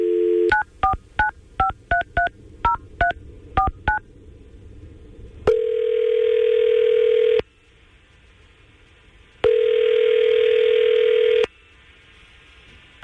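A phone number is dialed by the Tampa Bay radio station 99.5 QIK's morning crew with a quick run of about a dozen touch-tone beeps, followed by two long ringback tones separated by a pause. No voices are heard.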